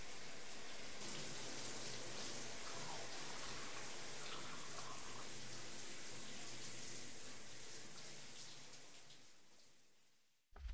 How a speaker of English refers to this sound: I hope you don't mind that I took my time with a shower, but I much needed to feel that hot water on me after the cold rain.